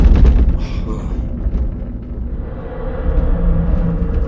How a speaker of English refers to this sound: What's happening? Probably more thunder. Thunder doesn't feel like an earthquake.